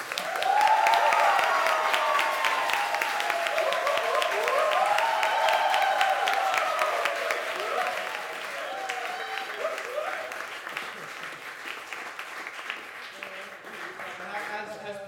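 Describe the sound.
An audience applauds steadily for about fifteen seconds, dense clapping mixed with whoops and cheering voices, loudest at the start and easing slightly toward the end.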